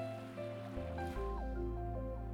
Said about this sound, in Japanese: あなたの耳には泡の音と私の声だけが響き渡る。